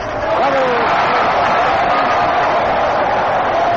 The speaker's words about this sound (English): Dean is up, and the pitch, safe, Dean, this is terrific, cut, and the roar of the crowd comes up high as he swings all the way around, pivoting, and then falls to the ground.